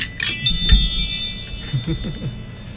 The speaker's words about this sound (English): It's time for the chimes. Time for the chimes. Chime time.